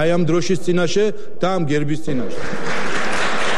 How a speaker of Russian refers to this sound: Здесь спикера Папуашвили однопартийцы перебили аплодисментами.